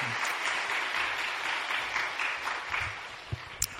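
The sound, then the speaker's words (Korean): A crowd claps steadily in dense, continuous applause welcoming visiting family members as they stand up, holding an even level throughout, with a couple of sharper isolated claps near the end. “자, 우리 가족들도 같이 오셨는데 한번 일어나시면 박수로 환영하겠습니다.”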